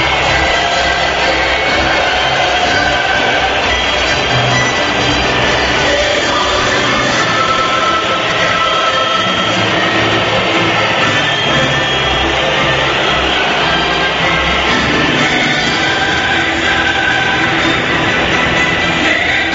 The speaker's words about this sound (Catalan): Sona l'himne de la Champions al Camp Nou i a la sintonia de RAC1.